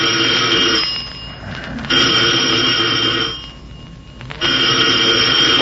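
household object, telephone ringing

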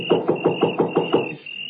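impact, knocking on a door

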